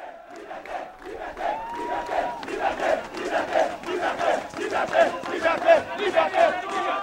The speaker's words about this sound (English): A crowd of 4,000 protesters composed of civic groups, political parties, and student activists protested on Haiti's capital, Port-au-Prince, on Sunday, calling for the resignation of President Jean-Bertrand Aristide.